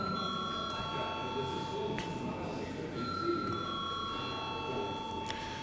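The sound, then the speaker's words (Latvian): A steady electric bell in a parliament chamber rings continuously for several seconds before a vote, holding an even, bright tone over a low murmur of voices and room noise. “Lūdzu zvanu.”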